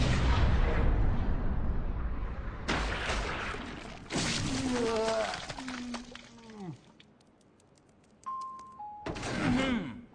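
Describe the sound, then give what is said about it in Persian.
Several loud gunshots, fired by Mickey, crack out at irregular intervals, each leaving a noisy wash behind it, while animated voices shout and talk over the commotion. “منم باورم نمیشه میکی به طرفشون شلیک کرده باشه.”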